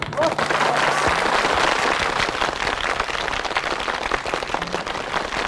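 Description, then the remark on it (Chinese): A crowd at a wedding applauds steadily, a dense, even wash of many hands clapping that holds at a fairly loud level throughout, with a faint voice briefly audible near the start. “大家掌声欢迎。”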